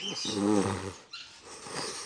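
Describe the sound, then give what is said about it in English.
A puppy gives a short, high whimpering yelp with a tonal, whiny pitch, followed by a softer breathy snuffle. It is moderately loud, with no talking. “A puppy.”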